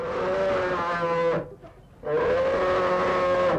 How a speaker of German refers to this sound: Wenn ein Bär brummt, ist es laut. Warum brummen Bären eigentlich? Brummen ist die Sprache der Bären,